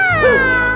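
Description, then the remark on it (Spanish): A single drawn-out meow, voiced by a person imitating a cat, loud, with a rising then falling tonal sweep lasting under a second and no other sounds around it. “¡Miau!”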